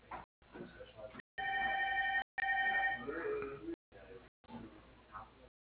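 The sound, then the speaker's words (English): Two steady electronic touch-tone keypad tones from a phone, each lasting under a second, ring out clearly over a narrow telephone line during an automated dial-by-name menu, with brief stretches of speech before and after them. “By using the keys on your touch-tone phone, please enter the first or last name of the party you wish to reach.”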